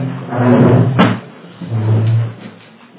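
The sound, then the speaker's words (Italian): A loud wooden scrape as a chair is dragged across the floor, ending in a sharp knock, followed by a lower creaking shift as someone settles onto it. No one speaks. “Guardi, si sieda che è così... Prendo sempre questa sedia.”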